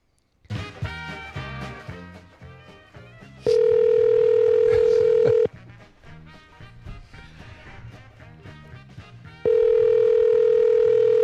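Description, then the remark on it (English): A telephone ringback tone sounds in two long, steady bursts separated by a pause, as a call back to a store rings unanswered over a bed of busy background music. “Are you allowed to just not answer the phone?”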